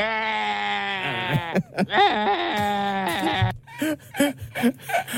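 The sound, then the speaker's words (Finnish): A person imitates a sheep like a bad movie sound effect, in two long, loud, quavering bleats, followed by a few short choppy vocal bursts. “Joku huono elokuva tehoste lammas.”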